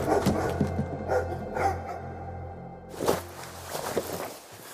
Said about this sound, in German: Irgendetwas poltert im Hundeverschlag. Da war es wieder. Ein markerschütterndes Jaulen und Kratzen.